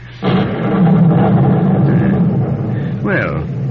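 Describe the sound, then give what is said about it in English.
A loud storm of wind and rain sets in abruptly and roars steadily, with a heavy low rumble underneath and a brief rising, whistling gust toward the end. “Well, the storm has renewed its fury, hasn't it?”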